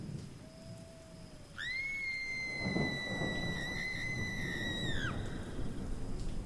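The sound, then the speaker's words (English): Steady hissing rain from a shower runs throughout, while a high, sustained whistling tone rises out of it for about three and a half seconds in the middle. “It's raining. It's showering.”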